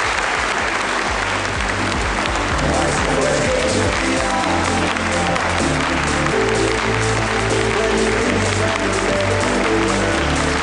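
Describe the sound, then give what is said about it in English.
A sustained burst of crowd applause, loud and steady for about ten seconds, with a low musical bed running underneath and no voices. “So let me give you a good round of applause.”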